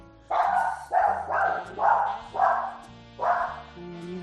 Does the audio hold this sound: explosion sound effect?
no